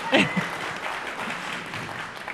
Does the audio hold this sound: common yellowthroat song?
no